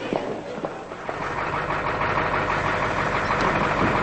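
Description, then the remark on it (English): A Department of Corrections bus engine idles with a steady rumble and a broad mechanical hum as the bus enters Draper Medium Security Prison, growing slightly louder after the first second and holding even to the end, with no voices. “One year later, Ellard is looking out a Department of Corrections bus as it enters Draper Medium Security Prison.”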